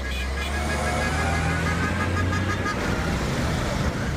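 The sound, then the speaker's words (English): Dense street traffic rumbles steadily in busy downtown Kampala City, Uganda, with engines droning, a sustained horn-like tone over the first few seconds, and faint voices mixed into the continuous city noise. “whom I met at the busy downtown of Kampala City.”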